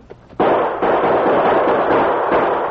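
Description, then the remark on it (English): Gunfire from fast-firing repeating rifles erupts after a soft lead-in: a loud, dense barrage of overlapping shots and cracks rattles on almost without pause for over two seconds, with brief dips in the volley. “When they stop to reload, we'll have a chance to aim past this rock and return the fire.”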